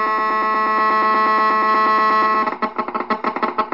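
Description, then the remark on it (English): A harsh, buzzing electronic drone from a cell phone's radio signal rendered as sound, steady for a few seconds, then breaking into rapid stuttering pulses and chirps. No one speaks. “This is a cell phone.”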